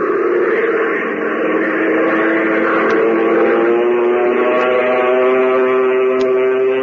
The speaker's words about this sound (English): Fellows and girls, doesn't the roar of Hop Harrigan's plane make you want to learn to fly?